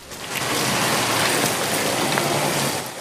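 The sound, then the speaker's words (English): Steady rain pours down in a dense, even hiss that fills the whole span, fairly loud, with faint patters of drops striking surfaces and no voices. “Michael follows her out into the rain.”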